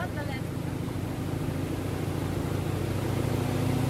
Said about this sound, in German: Ich laufe zum Steg und steige in das Wasserflugzeug. Alle Fluggäste bekommen Ohrschützer.